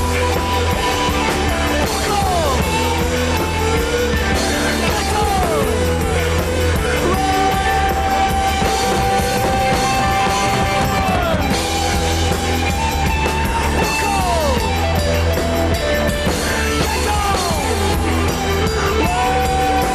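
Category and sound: crowd, people screaming and yelling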